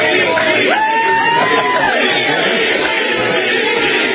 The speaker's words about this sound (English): They're chanting VP.